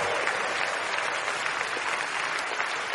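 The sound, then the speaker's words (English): An audience claps for Jesus in a dense, steady wash of applause, many hands blending into a continuous bright crackle that holds level for the whole stretch with no voices standing out. “Now if you are clapping for Jesus, please do it very well.”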